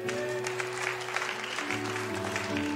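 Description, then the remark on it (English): A church audience claps steadily during a sermon on Yahweh Nissi, 'the Lord is my banner', in a dense, continuous patter that runs the whole time, with a sustained keyboard chord humming underneath and shifting to a new pitch partway through. “I feel like I haven't even given you the truth of what that means and you're clapping already.”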